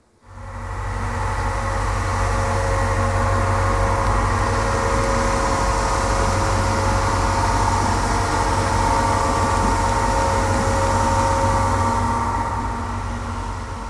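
A steady, loud mechanical drone with deep low-frequency hum and sustained tonal whine, ship engines heard under the water surface, continuous and unchanging throughout with no voices.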